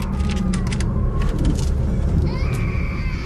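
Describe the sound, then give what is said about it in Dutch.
A small child cries persistently inside a home in drawn-out, wavering wails, somewhat muffled and set against a steady low rumble like traffic. “Binnen komt het aanhoudende gehuil van een klein kind haar tegemoet.”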